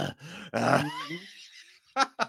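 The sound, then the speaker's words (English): A man voices a strained, effortful grunt that trails into a drawn-out groaning exhale, followed by two short, sharp huffs. Fairly loud, with no other sounds. “I'm like, well, that's cool if I'm like somewhere where there is audio, but most of the time it's just me huffing and puffing or literally no noise at all.”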